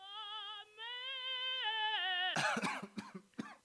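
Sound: coughing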